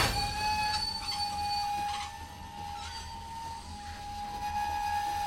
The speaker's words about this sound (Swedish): Tågbromsarna gnisslar när loket gör halt på Retiro-terminalen i Buenos Aires.